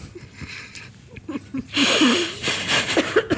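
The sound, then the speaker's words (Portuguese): A long, creaky yawn swells, breathy and rasping with a wobbling, strained pitch that stretches on for well over a second after some quieter vocal noises. “Vais bocejar agora?”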